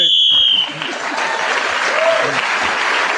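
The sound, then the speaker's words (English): A single shrill, steady whistle blast ends a round of a panel game as a player gains an extra point, sounding for under a second, then giving way to loud applause and crowd noise that continues to the end. “… was speaking then as a whistle when gained an extra point, and others in the round, he's moved forward.”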